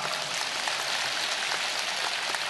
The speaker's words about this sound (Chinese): 鼓掌啊！